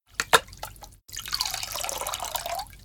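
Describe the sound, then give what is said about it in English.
A few quick drips and splashes, then a steady stream of drinking water poured into a cup or glass for sailors, its pitch rising as the vessel fills. No voices. “Luis gives the sailors some water to drink.”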